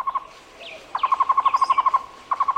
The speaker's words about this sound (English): This bird is the tocororo, the Cuban trogon, chosen as the national bird of Cuba.